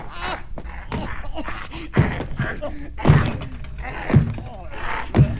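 Four heavy, dull thuds land roughly once a second as a man, gripping another by the throat with one hand, punches him in the face with the other, amid scuffling and strained grunting voices.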